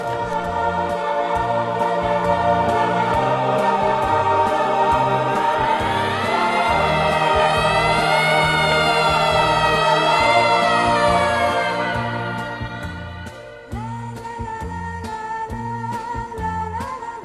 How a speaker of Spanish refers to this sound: Ricordo che il nostro discorso fu interrotto da una sirena che correva lontana chissà dove. Io ebbi paura perché sempre, quando sento questo suono, penso a qualcosa di grave.